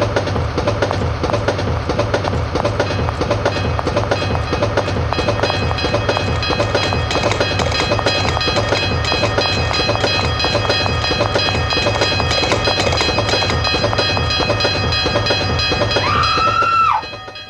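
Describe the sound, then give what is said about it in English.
A train rumbles loudly and steadily, with rhythmic clacking from the wheels throughout and a short falling tonal whine right at the end as the sound cuts off. “And this horse keeps running past her, trying to tell her to pay attention to the train that was coming, but she doesn't hear.”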